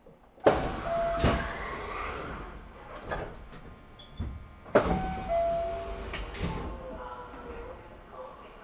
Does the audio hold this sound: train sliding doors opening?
yes